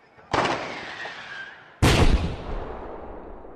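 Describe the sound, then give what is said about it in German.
Two loud firecracker bangs about a second and a half apart, each a sharp crack trailing into a rumbling, echoing decay. The second is louder and more booming. “Und dabei stellt man also fest, das ist also die Knallerei.”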